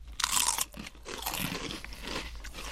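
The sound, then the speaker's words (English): Loud, crisp crunching of Rancheros chips, six months past their expiry date, being bitten and chewed, a sharp burst at first followed by a couple of seconds of steady, crackly mastication with no talking. “We'll do a chip cheers with the Rancheros.”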